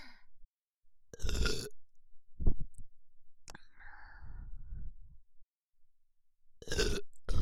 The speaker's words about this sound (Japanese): ゲップも超くっせえし、あ、まだでそう。